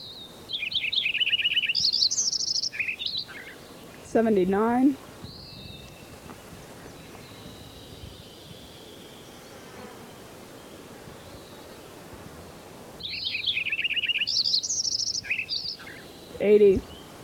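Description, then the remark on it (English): A wild bird at Coppins Meadow sings two bright, warbling phrases of rapid high chirps with a quiet pause between them, each followed by a lower, harsher call, over faint steady background hiss. “All the birds I've been recording up to now, I've had the roll-on filter on the microphone set on position 2.”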